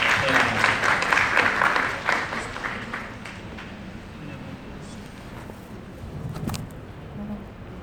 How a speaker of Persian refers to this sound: لطفا ایشون رو تشویق بکنید تا انشالله حاضرش کنید.